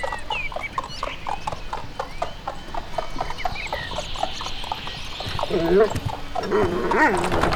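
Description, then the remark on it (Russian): Steady clip-clop of hooves from a two-horse carriage rolling up to a house, a brisk even rhythm under soft background noise, with a dog barking and a few animal sounds near the end. “А к нему подъезжает карета? Ну, с двумя лошадками.”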